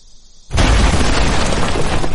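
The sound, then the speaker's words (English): A bomb explosion in Iraq bursts in suddenly after a faint hiss, a loud, broad roar that stays heavy and rumbling without fading, with no voices. “That was the bomb that still makes Ken jump.”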